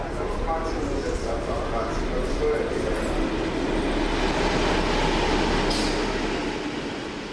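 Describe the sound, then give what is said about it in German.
A train from Munich to Frankfurt rolls steadily along the rails with a constant, heavy rumble and rattling clatter, with faint muffled voices beneath the noise. “in den Zug nach Frankfurt.”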